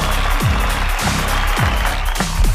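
A canned applause effect: dense, steady clapping from a crowd, loud and unbroken for a couple of seconds, with a few cheering voices sliding through underneath.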